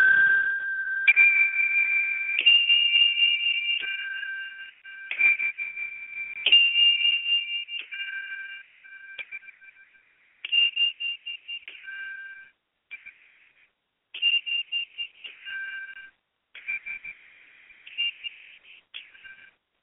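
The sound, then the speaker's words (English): A meditation chime, played before a liturgical piece, rings out a slow sequence of clear, bright tones, each note held and shifting in pitch like a simple melody, with brief pauses between phrases and no talking. “In the meantime, let us listen to the chime as we prepare to go forward to the liturgical piece.”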